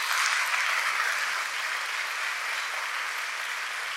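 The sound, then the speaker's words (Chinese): Steady applause from a church audience giving praise to God, a dense wash of clapping hands that stays loud throughout and eases slightly after the first second and a half, with no one speaking. “给上帝最大的掌声。”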